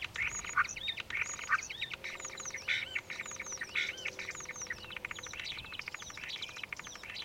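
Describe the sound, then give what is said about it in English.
Swallow calls from many swallows perched on a cable about 20 yards away: a dense, continuous chorus of high chirps and twitters mixed with bursts of rapid dry clicking, steady and moderately loud throughout with no talking. “Yes, I was going to say, the impersonating clicks, presumably, are of swallows.”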